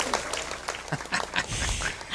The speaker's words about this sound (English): I was going to try and play the applause here. Go ahead. We love applause. Yay.